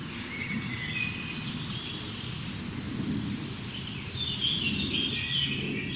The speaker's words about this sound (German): Jetzt warten wir nochmal ein Dü-Dü-Dü ab. Also ich bewege das Mikrofon wirklich nur marginal. Das ist der Vogel, der sich so krass bewegt.